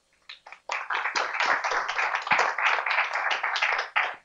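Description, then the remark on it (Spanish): An audience applauds the speakers at the close of a conference session, many hands clapping in a dense, steady crackle that starts with a few scattered claps, holds strong for several seconds, then begins to thin out. “Agradecemos a todos su asistencia, su participación y bueno, me parece pertinente brindar nuevamente un aplauso a nuestros ponentes.”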